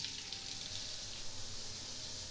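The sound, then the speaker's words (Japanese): Shower water sprays steadily onto a towel draped over a person's whole body, a continuous soft hiss with no pauses, at moderate volume, with no voices. “僕の全身にタオルをかぶせて、その上からシャワーかけていきまちからね。”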